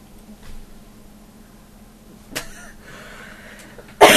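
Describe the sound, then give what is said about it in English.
A short, sharp cough, followed by a rustling stretch and then a louder, harsher cough burst at the end. “I can't mute the microphone now. I just cough instead.”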